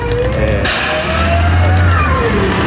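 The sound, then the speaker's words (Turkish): A bus engine rumbles on a street in Ümraniye, then a sudden broad air hiss bursts out and keeps going as the bus, which had stopped, starts moving off toward the other side, with traffic noise around it. “Sesin burada pıs diye böyle bir şey de yaptı.”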